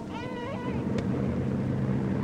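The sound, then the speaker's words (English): A toddler, alone amid wreckage during a bombing raid, gives a short, wavering wail over a heavy, continuous low rumble, followed by a sharp single crack as the rumbling rolls on. “A toddler cries, alone amongst the wreckage.”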